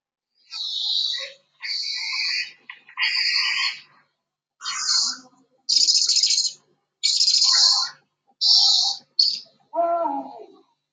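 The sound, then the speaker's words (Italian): A series of about eight bright, clear night bird calls in steady succession, each lasting around a second with short pauses between, fairly loud, ending with a lower, throatier call. “Poi tese le sue orecchie da lupo per ascoltare attentamente i versi degli uccelli notturni.”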